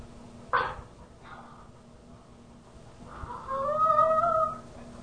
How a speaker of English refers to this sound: Yeah, and what you just heard a while back there was the voice of a certain dog named Rogi, who very clearly expressed his opinions and his frustrations of today. And that was some voice too, wasn't it?